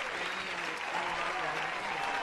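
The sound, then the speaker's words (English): Steady audience applause, a dense wash of many hands clapping at an even level for a couple of seconds, with faint murmuring voices mixed underneath. “That's another good applause.”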